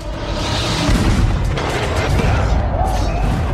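Heavy cannon fire booms through a dense, continuous battle din, with deep rumbling blasts and crackling noise loudly filling the scene.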